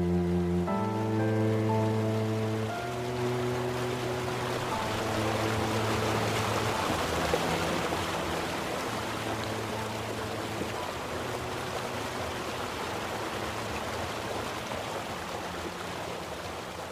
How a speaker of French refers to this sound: Et surtout, ce regard nous fait contempler le Tormes, la rivière qui court vers le Duero, puis vers l'Atlantique.